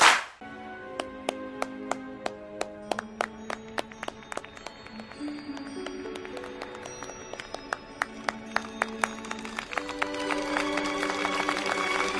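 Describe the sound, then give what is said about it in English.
Sharp hand claps sound one after another in a steady rhythm over a sustained tonal hum, growing quicker and denser toward the end. “Presenting the Clapper. Clap on, clap off.”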